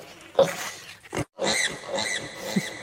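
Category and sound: animal, pig grunting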